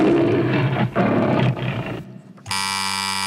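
A lion roars loudly in three deep, rumbling, powerful bursts, then after a brief drop a steady, sustained droning tone takes over, as at the start of a Metro-Goldwyn-Mayer film. No one speaks.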